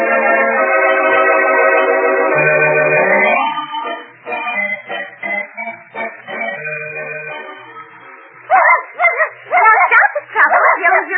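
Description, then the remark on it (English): A dog yips and barks in a quick flurry of sharp, loud bursts near the end, following a stretch of sustained, tonal whining and softer scattered sounds. “Listen, dog. I can bite, too.”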